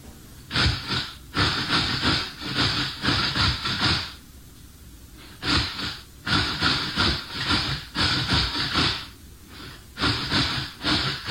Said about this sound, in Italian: Io ho voluto prendere quella fatta con un cetriolo grattugiato. Cioè, lui grattugia un cetriolo e grattugiandolo lo fa a tempo di questa canzone.